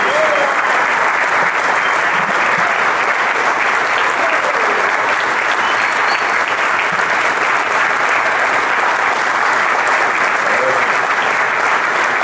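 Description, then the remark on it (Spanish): Sustained, loud audience applause in support of President Maduro fills the whole stretch, a dense steady wash of clapping from a large crowd with no pauses and no clear voices on top. “Pero bueno, que ese aplauso se escuche”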